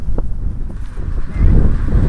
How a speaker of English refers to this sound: You can hear the hissing of the sand blowing across the surface. It's very, very loose sand here. Very sand dunes, a lot of sand dunes. Hear that hissing noise? It's the sand.